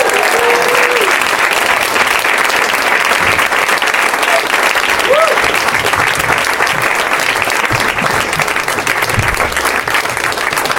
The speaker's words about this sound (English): Todd, they're trying to clap long enough for you to get your ass in your seat.